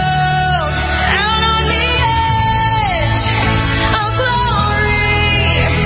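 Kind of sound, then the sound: crowd, audience screaming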